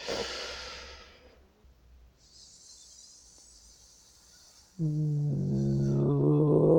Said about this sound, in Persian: مرحله بعدی تمرین این میشه که ما یک جمله رو با نفسگیری دیافراگمی بیان بکنیم. برای منظور میشینیم، یک دم دیافراگمی میگیریم، با همون صدای هیس خارج میکنیم، صدای هیس رو تبدیل به صدای آ میکنیم، کم کم شروع به بیان حروف و ادای کلمات میکنیم. به این صورت.